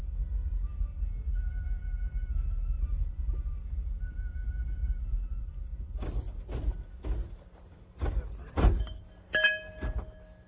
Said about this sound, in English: Thousands of Andeans from hundreds of villages are crossing the mountains on foot or by horseback, or jammed into flatbed trucks or microbuses like ours, heading toward the shrines in the mountains.